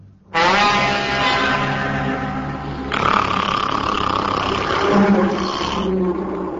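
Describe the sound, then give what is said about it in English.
A fire-breathing dragon's roar bursts in suddenly in a courtyard and holds for about six seconds, deep and rumbling, then turns rougher and more snarling halfway through before trailing off slightly at the end. “It was a dragon.”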